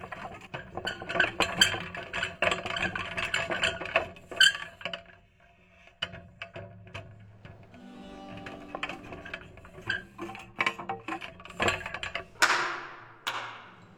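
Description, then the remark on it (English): Kettle drums being wheeled into place ahead of an evening performance of Haydn's Creation: a low rolling rumble with frequent knocks, thunks and metallic clinks, busy and uneven, ending in a louder rattling clatter. No voices. “The kettle drums sound, not through being struck, but being wheeled into place.”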